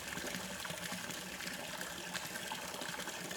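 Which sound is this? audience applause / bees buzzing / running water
running water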